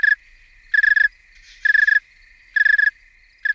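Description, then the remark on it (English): A cold male snowy tree cricket chirps slowly, sounding short pulsed trills about once every second, clear and steady against a quiet background. “As they cool down, so their entire system slows down. They sing slower, the pitch lowers a little bit”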